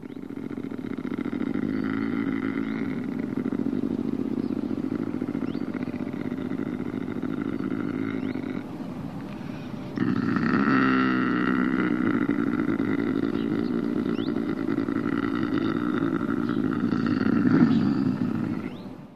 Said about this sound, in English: So that sounded either like a chainsaw or somebody snoring, but it's not. It's apparently it's a lynx. That's the sound of a lynx. What's it doing? Why is it making such a sound? Usually the vocalization is somehow connected with the mating period.